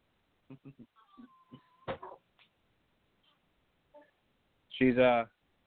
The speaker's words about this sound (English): If you hear someone crying in the background, that would be my son.